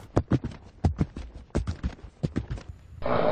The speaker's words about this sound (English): Oh, a horse just stopped outside.